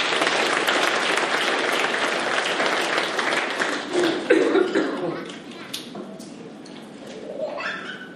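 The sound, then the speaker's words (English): A church audience applauds in welcome as a man from the front row comes up to read a text message, a dense steady patter of many clapping hands that swells, then gradually thins and fades toward the end, with a few voices murmuring beneath. “Give him a welcome.”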